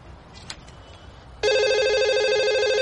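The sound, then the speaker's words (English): A telephone starts ringing abruptly partway through, a loud, steady electronic trill that continues without pause to the end, following a moment of quiet background noise. “Stop calling!”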